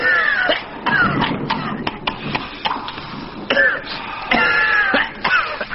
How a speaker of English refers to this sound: Oh, dear. One of the pupils seems to have a problem, not only his cough, but he's passing a note to the Maharisha, who's very graciously woken up to help him.